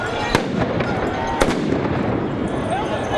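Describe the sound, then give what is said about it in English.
Two sharp, loud stun grenade blasts, used by police, ring out about a second apart over a constant roar of crowd noise and shouting voices at a Yellow Vest street protest in Paris, where dozens of demonstrators clashed with police on the protests' 23rd Saturday. “Police responded with tear gas and stun grenades.”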